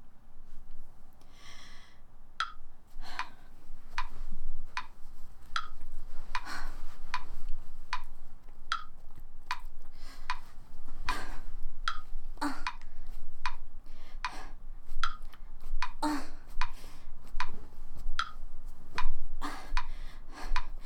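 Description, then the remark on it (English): A clock, just started, ticks steadily, sharp regular clicks spaced under a second apart, continuing for about twenty seconds over a low hum of background noise, with no one speaking. “He started the clock.”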